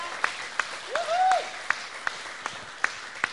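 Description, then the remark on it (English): A church audience at City Light applauds the music team with loose, scattered claps, and a brief rising vocal cheer cuts through the clapping early on. “Come on, give them a clap of appreciation.”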